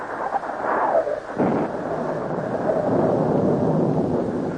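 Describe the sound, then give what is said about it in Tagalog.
A steady, loud storm roar of thunder, wind and pouring rain, with deep rumbling and hissing noise, a gust of wind swooping in pitch near the start, continuing without pause and with no voices. “Nang magkagayoy, bumuhos ang ulan, humangin ang humangin, lumakas ang baha.”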